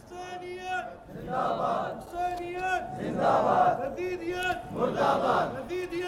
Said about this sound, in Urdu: اب جب ہم یہ حسینیت زندہ باد کے نعرے لگاتے ہیں، لوگ کہتے ہیں خود ساختہ نہیں ہے، خدا کی قسم خود ساختہ نہیں ہے،